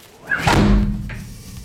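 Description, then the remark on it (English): Heavy doors swing shut with a single deep, loud thud, followed by a low resonant rumble that slowly fades. No one speaks. “I closed the doors.”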